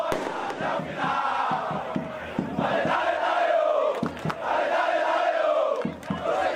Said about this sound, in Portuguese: O aspecto que eu sinto mais falta no estádio do Itabaiana é a torcida, é o incentivar. Eu sou daquele povão mesmo, vou pro estádio gritar, apoiar o time.